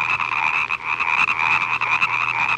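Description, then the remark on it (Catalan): Frogs croak in a steady, unbroken chorus of rapid, raspy pulses, fairly high-pitched and moderately loud, with no voices over it. “El mussol continua buscant, al cap d'una estona es troba una granota.”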